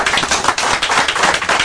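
A steady wash of applause, dense overlapping claps forming a bright crackling roar that holds at an even, fairly loud level throughout, with no voices standing out.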